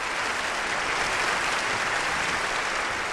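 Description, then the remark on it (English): Sustained applause from a large audience of children and parents fills Symphony Hall in Boston as the conductor steps onto the stage before a Christmas-season orchestra concert in 1973, a dense, steady wash of many hands clapping at once without pause or speech. “Conductor Arthur Fiedler steps onto the stage, welcomed by applause from the audience.”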